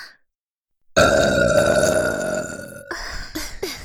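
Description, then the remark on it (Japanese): A long, loud, deliberate burp, made after drinking carbonated water with three people burping at once, bursts out after a brief silence, rumbling for about two seconds before breaking into a few shorter, gurgling belches. “満足できるゲップが出ました。”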